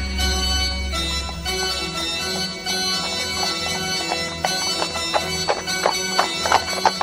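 Horse hooves clip-clop in a steady, even rhythm over a sustained musical backdrop, the sharp hoofbeats growing clearer and louder toward the end.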